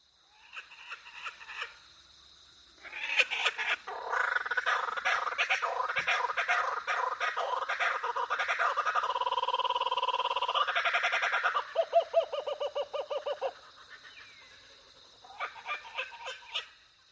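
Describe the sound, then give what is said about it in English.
A kookaburra, an Australian bird and the world's largest kingfisher, gives its laughing call: soft chuckles swell into a loud, raucous cackle of rapid repeated hoots for about ten seconds, then fade back to quieter chortles. No one speaks. “This iconic Australian bird is the world's largest kingfisher”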